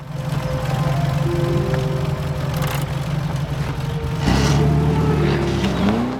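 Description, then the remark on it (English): A vintage car, cranked by hand to start, chugs with a steady low drone, then revs up louder and pulls away down a driveway, its pitch climbing as it drives off. “Sebastian hurries over and desperately tries to crank the car.”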